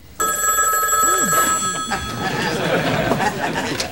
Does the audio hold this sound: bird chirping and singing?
no